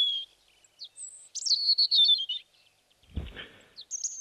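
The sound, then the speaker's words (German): A European robin sings high, thin warbling trills in short phrases separated by brief pauses, heard alone, with a low rustling thump partway through. “Ja, das sind viele Triller, die da aneinandergereiht werden und dazwischen gibt es immer wieder Pausen. Diese Pausen gehören mit zum Gesang und das ist typisch für das Rotkehlchen.”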